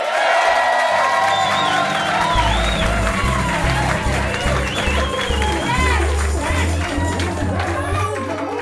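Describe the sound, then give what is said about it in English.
A studio audience of about 80 people, live in Studio 180, 1A at radio station KUTX 98.9, cheers, whoops and claps continuously, with rising shouts and whistles, while a deep, steady bass hum sits beneath the noise. “We are live in Studio 180, 1A, with a crowd of about 80 people here.”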